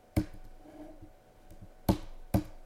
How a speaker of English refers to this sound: Keyboard click.